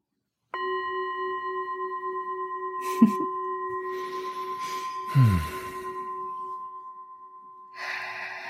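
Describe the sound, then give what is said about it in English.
A meditation bell attuned to heart frequency is struck once and rings on with a long, steady shimmering tone and clear overtones, slowly fading, while a few soft breaths and rustles occur over it. “So I'm gonna delight the listeners with this beautiful bell.”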